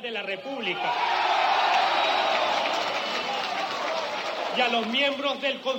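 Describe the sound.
A large crowd of supporters roars and chants "democracy, democracy" together, a loud, sustained wash of many voices, with clearer shouted voices rising out of the din at the start and end.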